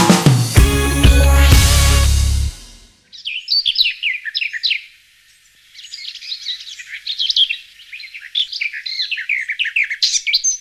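morning birdsong

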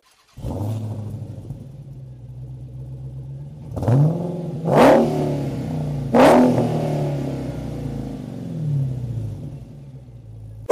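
car engine revving

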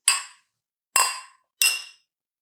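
glasses clinking

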